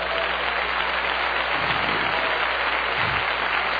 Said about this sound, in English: Oh, clap your hands, somebody.